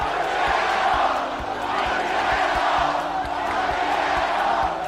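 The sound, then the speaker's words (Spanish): A large crowd of socialist party supporters chants a slogan in unison during election night celebrations, a loud, dense roar of many voices that holds steady throughout, with faint low thumps pulsing underneath. “Bueno, el celebérrimo grito proferido por la militancia socialista durante las celebraciones de la noche electoral aparece escrito y reescrito hasta la saciedad en las respuestas de Twitter.”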